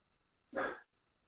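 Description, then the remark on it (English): A single loud bark from a guard dog about 2 feet tall, one sharp burst lasting about a third of a second, with quiet background before and after it and no voices. “Shout out to the guard dog.”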